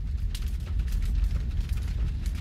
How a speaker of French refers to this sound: J'adore entendre le bruit chaleureux du feu qui crépite.